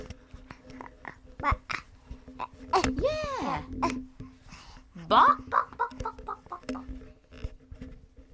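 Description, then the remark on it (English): A young child's voice imitates a chicken, answering what noise a chicken makes, with two squawky, rising-and-falling clucking calls a couple of seconds apart, surrounded by soft babbling and light background shuffling. “What noise does a chicken make? chicken.”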